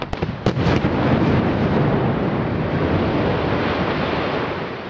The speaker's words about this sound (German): Pünktlich um 12.30 Uhr erfolgte heute die Sprengung im Felssturzgebiet von Gurtnellen.